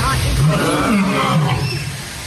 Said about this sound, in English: The lions, and a lion starts to roar, and I hit him with a good one.